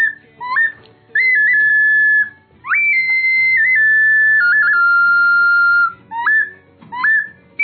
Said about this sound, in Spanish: Tenemos otra que es la Tlalpizali Ayot, que realmente imita las aves.